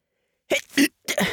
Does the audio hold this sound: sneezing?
yes